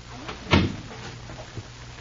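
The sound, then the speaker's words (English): A theater's stage door opens with a solid thump, followed about a second later by a softer knock as it closes, against a low, steady background hum. “hurries out the stage door entrance and starts around toward the front of the theater.”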